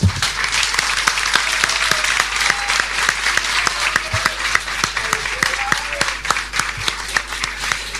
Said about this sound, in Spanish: Acá está mi familia, a la cual les pido un aplauso también.